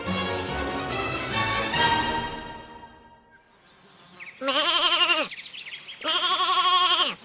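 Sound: sheep bleating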